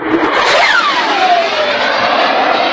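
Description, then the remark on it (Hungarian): Engine of an ultralight single-seat gyrocopter, an aircraft able to fly at up to 200 km per hour, a loud steady buzzing drone with a whining tone that rises then glides downward as it passes, no voices. “egy zsirokopter hangját hallják. Ez egy ultrakönnyű, egyszemélyes helikopter.”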